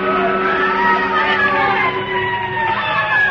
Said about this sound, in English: With Nick Segedin, it was the lighted match, the licking flame, and of course the roar and scream of the fire engines racing through the city streets.